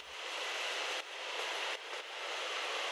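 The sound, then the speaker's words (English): Steady, dense rushing roar recorded while sitting inside a riding subway train, with the low end thinned out. The level dips briefly twice because the sound is sidechained, ducking in and out. “From that recording of the subway, the piece I ended up choosing was from sitting inside the train.”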